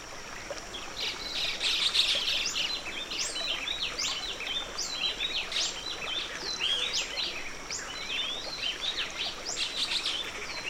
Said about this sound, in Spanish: Y aquí, las voces de las aves son todo un alboroto, una cacofonía contundente de sonidos que se unen a la conversación tranquila entre agua y piedra.